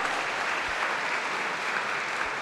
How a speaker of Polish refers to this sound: Wielkie brawa.